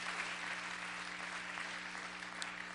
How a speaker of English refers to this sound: So we need to give God a hand clap of praise.